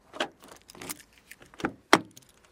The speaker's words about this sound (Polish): Nie chce się otworzyć. Spróbujemy może kluczykiem.